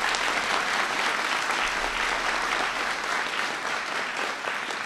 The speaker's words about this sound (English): So give teachers a big round of applause.